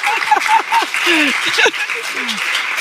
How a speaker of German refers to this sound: Danke für diesen tosenden Applaus. Das war ja herrlich.